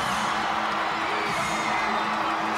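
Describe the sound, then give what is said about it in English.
A dense, roaring arena crowd in Jacksonville, thousands on their feet, cheers and applauds the heavyweight champion of the world in a loud, continuous wash of noise, with scattered shouts and whoops rising above the steady ovation. “Thousands upon thousands on their feet cheering the champion.”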